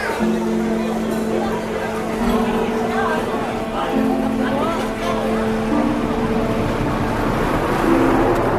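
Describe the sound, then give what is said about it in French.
Steady low rumble of a moving bus interior fills the background, with several people's voices and long sustained sung notes from families from Kobané celebrating at the back of the bus, rising over the engine and road noise. “C'est la fête au fond de ce bus.”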